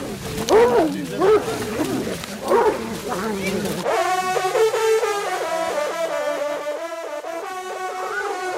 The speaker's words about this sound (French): Les chiens sont en train de manger la bête. Ils sont en train de lécher le sol là pour récupérer les derniers morceaux.